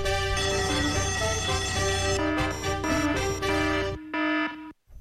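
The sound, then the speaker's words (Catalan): A loud, harsh electronic alarm rings continuously for about four seconds, its buzzing tones shifting in pitch, then cuts off abruptly. No one speaks over it. “Ja està, no era per si estàveu dormits o el que sigui, és com un despertador, perquè estigueu alerta.”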